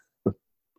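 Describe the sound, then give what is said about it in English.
A single sharp sneeze bursts out abruptly, loud and brief, then cuts off into silence with only a tiny faint click afterward. “Bless you, bless you.”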